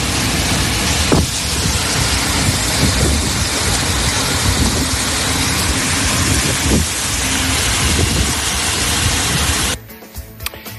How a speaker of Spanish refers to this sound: Y atención a la fuerte tormenta de agua que ha caído esta noche en Salamanca. Agua, vientos, han levantado rachas de hasta 80 kilómetros por hora que han provocado la caída, según parecen testigos, de cientos de árboles.